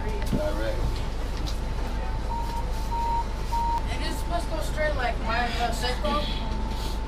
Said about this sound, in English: Jackson's the furthest I go. Second to Jackson, then you can, that's it. I don't go off the bus. I like this bus. God, it's so hot in here.